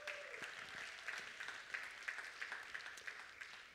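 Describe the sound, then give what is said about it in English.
An audience applauds with dense, overlapping clapping that stays steady and even for several seconds, forming a continuous crackling wash with no voices over it, applauding the men who spent the previous day making sure the children's wing looked great. “So give them a round of applause just for the effort.”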